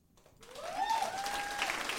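Audience applause for the event's guests swells in after a brief quiet start and holds steady as a dense, even patter of clapping, with a sustained high whoop or whistle riding over it.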